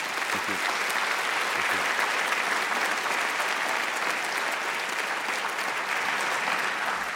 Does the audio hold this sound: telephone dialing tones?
no